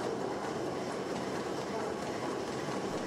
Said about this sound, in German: So klingt eine Dampfmaschine.